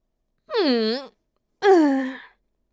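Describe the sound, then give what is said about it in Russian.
A woman yawns sleepily in two drawn-out, voiced breaths, each rising and sagging in pitch, fairly loud with a short pause between them, inside a wooden Japanese-style house. “В одном деревянном доме в стиле японской архитектуры выдавила себя зевок определенная женщина.”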